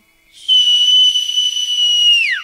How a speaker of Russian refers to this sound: Услышал младший свист и понесся, как заяц.